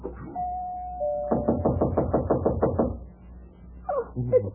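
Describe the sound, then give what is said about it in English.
A short steady tone, then a quick, even series of about eight firm knocks on a door, loud, followed by a pause and a few faint scuffling sounds. “I'm going to answer the door.”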